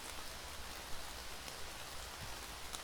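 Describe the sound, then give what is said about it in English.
Steady rain falls with a soft, even hiss, the occasional louder drop pattering. It's fairly quiet and continuous, with no voices. “It was your idea to dance in the rain like we're frogs in love or something.”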